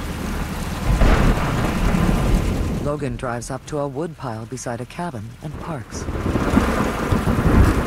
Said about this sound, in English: Sheet rain is illuminated by headlights.